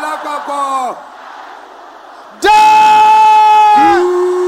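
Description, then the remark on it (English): A large crowd of worshippers at a prayer service shouts and roars together, a brief burst of voices fading into a murmur before a much louder, sustained collective roar erupts and fills the space as the men are called to roar. “Brothers, let me hear you roaring like that.”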